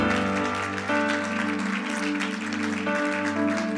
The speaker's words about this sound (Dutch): Come on, if you believe that, give God a big clap. Kom, als je dat gelooft, geef God een groot applaus.